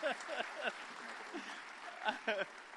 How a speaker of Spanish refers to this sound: Un aplauso a él.